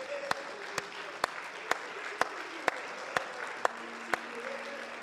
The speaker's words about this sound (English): Let's give him a hand clap of praise right now, would you?